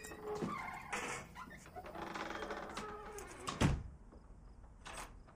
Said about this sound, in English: She arrives at the door, unlocks it and goes inside.